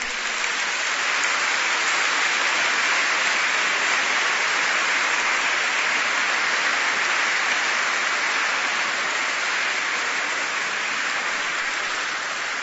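A crowd at an ecumenical event in Slovenia applauds the Christian churches present, a dense, even wash of clapping hands that holds at a constant loud level throughout, with no voices breaking through.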